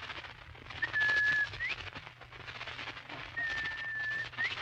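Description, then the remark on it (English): A person whistles an imitation of two bobwhite quail calls, each a steady clear note ending in a sharp upward flick, spaced a couple of seconds apart over a faint background hiss. “Did you ever hear me imitate a Bob White?”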